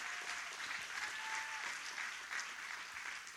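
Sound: audience applauding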